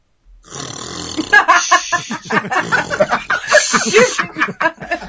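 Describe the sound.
A boy makes a long, rasping snore sound with his voice, then dissolves into bursts of giggling and snickering laughter that run on to the end.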